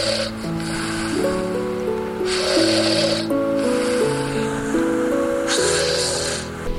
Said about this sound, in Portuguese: Que maçada agora começou a ressonar.